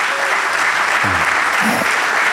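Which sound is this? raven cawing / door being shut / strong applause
strong applause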